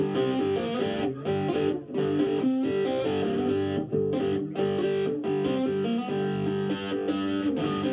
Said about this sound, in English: I plugged the guitar in, turned the amp full up, you know, so it is incredibly loud, and just banged it out. I just couldn't believe how good it is. To hear that dirty sound again that I could produce, you know.